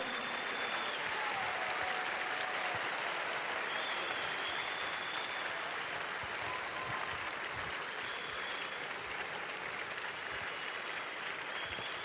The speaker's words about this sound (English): Please keep clapping for them.